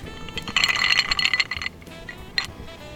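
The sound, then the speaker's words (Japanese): Glasses of Yamazaki 12-year Japanese whisky clink together in a quick toast, a bright cluster of ringing taps, followed by a softer single clink a moment later, with no talking over it. “で当然その、はい、まず乾杯しますか。 乾杯、 はい、では乾杯 乾杯。”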